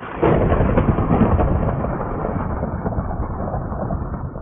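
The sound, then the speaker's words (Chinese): A sudden, loud crack of thunder from a huge lightning strike in a forest bursts in and then rolls on as a deep, sustained rumble that slowly fades, with no voices present. “但是突然有一日，天空里面划下一道巨大的闪电啊。”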